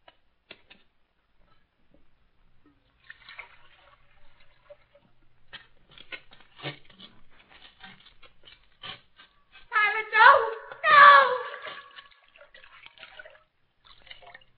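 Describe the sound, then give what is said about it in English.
Water splashing in a basin, with scattered small drips and trickles building to two louder, close splashes near the end, as if hands are being rinsed. “Captain, bring me a basin of water.”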